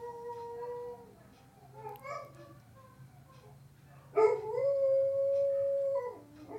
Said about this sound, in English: If you guys listen to the background, our dogs are howling at the full moon right now. Listen, now Ghost, he's only 3 years old, but he sounds like he's 13. Mm-hmm. They're all doing their howl.